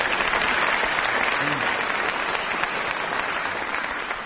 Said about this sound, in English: I don't really deserve a clap because I do sing that sometimes myself, so if I didn't know the details, I would be in trouble.